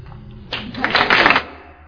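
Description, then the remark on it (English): A loud burst of clapping lasting about a second, a rapid flurry of sharp claps that swells and then cuts off, with no talking over it. “Oh, that was a loud clapping.”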